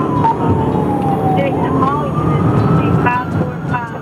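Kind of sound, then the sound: vehicle, police car siren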